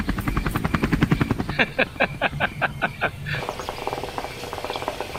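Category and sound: vehicle, helicopter flying overhead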